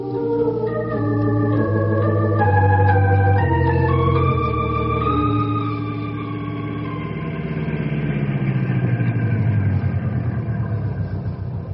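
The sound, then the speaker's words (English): A car engine runs loud, its tone stepping up and down as it revs, then settles into a steady rumbling drone as the car pulls away. No one speaks. “Henry will take you there in the car.”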